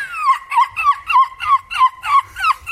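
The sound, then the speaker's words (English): A 9-year-old boy from Chesterfield, England, who won a European championship for screeching like a seagull, imitates a seagull, letting out a loud run of about eight quick, shrill, wavering calls that rise and slide down in pitch, one after another. “It's about a boy who's won a European championship for screeching like a seagull.”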